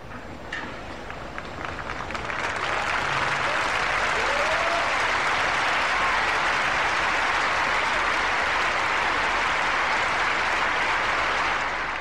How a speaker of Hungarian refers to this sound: A mai napon is sok zarándok gyűlt össze a vatikáni Szent Péter téren. Az ő tapsukat és egyben köszönésüket hallhatták az előző pillanatokban.